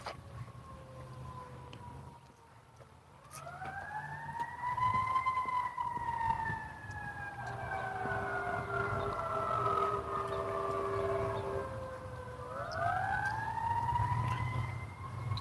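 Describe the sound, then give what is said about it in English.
A fire truck siren wails in long rising and falling sweeps, off in the not very far distance, over a steady low rumble of road traffic on a cold, overcast, snowy day; a fire station is about 200 yards west. No one speaks. “See a fire truck off in the not very far distance.”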